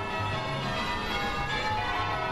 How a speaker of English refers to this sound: Back in June, church bells rang out in unison in Charleston, South Carolina, in memory of the 9 people killed at a Bible study group at the historic Black church, the Emmanuel African Methodist Episcopal Church.